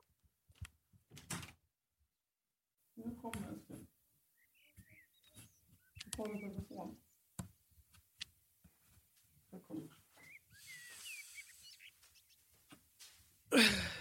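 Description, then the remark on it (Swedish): A baby boy waking up makes soft sighs and sleepy whimpers, a few brief vocal murmurs spread out over several seconds, with faint shuffling and a sudden louder rustle at the end. “Nej, men man, vänta, nu vaknar han, tror jag.”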